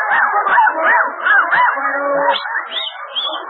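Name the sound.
dog barking and yipping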